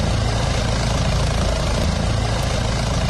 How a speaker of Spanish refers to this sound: Son las 12 y 28 minutos y te cuento que el helicóptero del Servicio de Emergencias del Principado lleva toda la mañana sobrevolando el Monte de la Barrena en Cudillero.